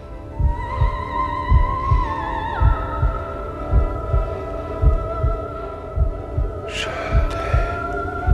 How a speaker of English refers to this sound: Her heart pounding, she watches helplessly from across the street as he mouths the words, "I love you."